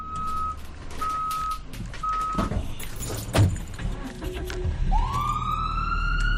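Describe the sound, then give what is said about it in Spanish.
Traffic rumbles as a few evenly spaced electronic beeps sound, then near the end an ambulance siren starts winding up, its tone rising steadily and growing louder. “De ambulancia.”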